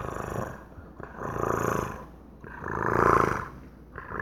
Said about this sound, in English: When you're sleeping, they'll come and curl up near you. And they will purr. Like you'll hear the sound.